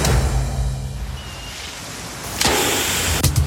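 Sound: car driving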